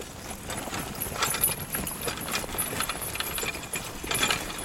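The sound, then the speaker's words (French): Steady clip-clop of a draft mare's hooves walking, a mare used for animal traction, a regular rhythm of dull knocks over a broad outdoor rustle, with no voices. “Si on n'avait pas de jument en traction animale, il faudrait qu'on s'équipe soit d'un tracteur, qui est quand même un certain coût, ou d'un motoculteur.”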